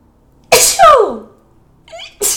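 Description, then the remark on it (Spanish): A loud sneeze bursts out with a sharp hissing onset and a falling voiced tail, followed by a brief faint vocal sound and the start of another breathy burst. “No fallan los estornudos en este podcast.”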